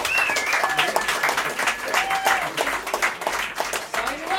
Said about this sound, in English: Now, I'm glad you applauded, because the response I got 10 years ago was like, that's lovely.